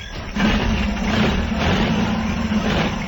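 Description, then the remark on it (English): The heavy engine of a steel machine resembling a metal elephant, with a bulbous cabin and a long steel trunk projecting from the front, rumbles steadily, starting softer and then settling into a loud, continuous low drone with a faint hum on top, unbroken for the whole stretch. “He sat inside the most remarkable machine I've ever clapped eyes on.”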